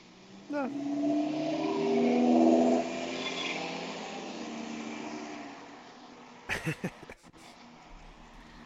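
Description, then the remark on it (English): A loud car engine revs up with rising pitch and roars as it accelerates, then settles into a steadier drone before a few sharp clicking sounds near the end. “Cars. Fast, loud noises.”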